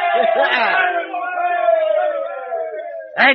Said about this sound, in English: Yes, we're saved. We're saved. Give a cheer, lads. We're saved.